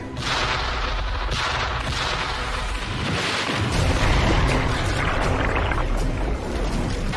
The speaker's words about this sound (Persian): 3 تا اژدر آماده کن به عمق 10 متر. اطاعت قربان، اژدر آماده. همشون رو شلیک کن.